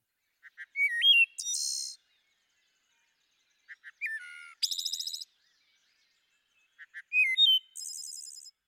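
wood thrush song

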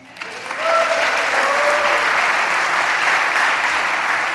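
thunderous applause

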